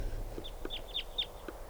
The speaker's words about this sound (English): The trees are full of crossbills now. There's about 20 birds around here all together. And they all sound like type 2s.